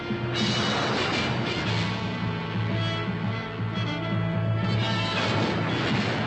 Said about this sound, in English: Collapsing wave squirts air and water out the end, it sounds like a jet plane taking off. If you're standing there, you get blown right off your board.